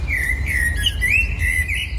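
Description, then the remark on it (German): A bird chirps in a steady, warbling stream of high, bright notes that wobble up and down, set against a constant low outdoor rumble. “Und ist das für ein Vogel?”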